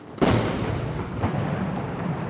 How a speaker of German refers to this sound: 70 Mal feuern die Kanonen zu Beginn der Militärparade an diesem Morgen Salutschüsse ab. Für jedes Jahr seit der Gründung der Volksrepublik einen Schuss.